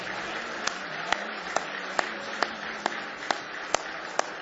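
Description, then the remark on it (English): A church audience claps its hands in praise: a steady wash of scattered applause with a sharper, regular clap rising every half second or so, about nine times, at moderate volume and with no talking. “Give Him a big hand clap of praise if you love Him this morning with all your heart.”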